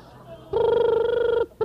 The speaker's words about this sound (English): Well, it sounds like you have another phone call there,